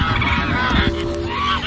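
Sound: goose honking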